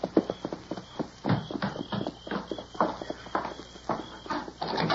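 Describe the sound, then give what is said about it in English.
Horses' hooves clip-clop steadily at a walking pace as the horses are taken around and back, a continuous run of overlapping hoof strikes, with no voices over them. “You take the horses around and back.”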